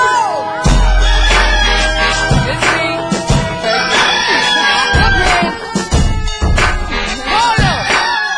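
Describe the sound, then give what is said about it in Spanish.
A rooster crows loudly at daybreak, its calls rising and falling amid a dense, busy mix with deep booming thuds underneath, full throughout. “Mi gallo trae blin blin, le brilla cada pluma.”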